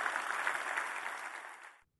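audience applause

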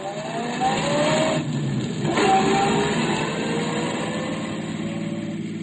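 car engine running

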